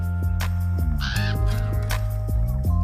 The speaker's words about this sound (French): À bientôt, avec ou sans corbeau. Avec, bien sûr.